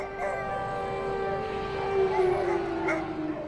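Air raid sirens wail outside, a steady, mid-pitched tone that holds for several seconds and drifts gently in pitch, droning on without pause over a faint background hum.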